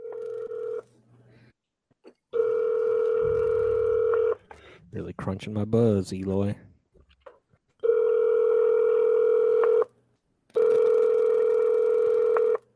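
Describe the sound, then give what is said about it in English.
Loud, steady telephone keypad tones sound as a phone number is dialed for a live call on air, in four long bursts of about two seconds each, separated by short silences, with a man briefly speaking in the gap between the second and third. “Should I let his phone number play this time?”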